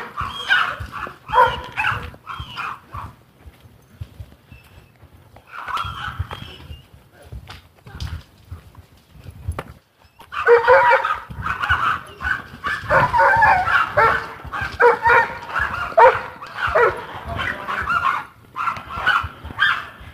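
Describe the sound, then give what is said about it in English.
Several small dogs yap and bark excitedly in rapid, overlapping bursts, with a short lull before the high-pitched yapping resumes louder and more frantic. “Little yappy dogs.”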